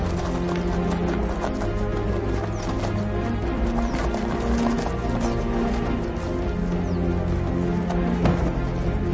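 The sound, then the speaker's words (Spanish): Male musk oxen clash in a scuffle during the rutting season, testing their opponents' strength, with hooves clattering and thudding in quick irregular bursts, steady in loudness over a continuous droning backdrop. “Con las hormonas corriendo por sus venas, los temperamentales machos se enfrentan entre ellos para conocer el poder de sus oponentes.”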